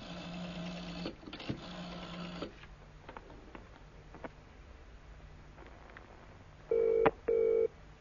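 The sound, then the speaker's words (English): A telephone ringing tone heard through the receiver while calling a company head office in South Moulton Street: a buzzing line and faint clicks, then one double burr-burr ring near the end, fairly loud. “It's ringing.”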